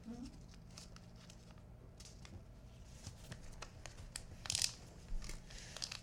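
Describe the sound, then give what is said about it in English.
Close-up rustling and crinkling of wrapping paper being folded around a book too large for the sheet, with irregular crisp bursts and soft shuffling, a sharper crackle near the end; no voices. “Tim's microphone is right down by the book, so you can hear all the paper moving around.”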